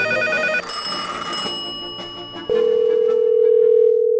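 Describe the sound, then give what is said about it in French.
A steady, clear telephone ringback tone sounds for nearly two seconds on a call placed to a convenience store to claim a lottery prize, heard alone after a brief burst of bright, layered musical sound at the start; no one speaks. “J'ai appelé pour réclamer mon prix au dépanneur.”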